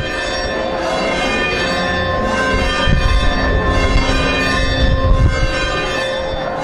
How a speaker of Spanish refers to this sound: Y con las campanas de la iglesia de San Agustín en Vegueta y con la entrada de la imagen de la Virgen del Carmen, finalizaba esta procesión de la Virgen del Carmen el día 16 de julio de 2024.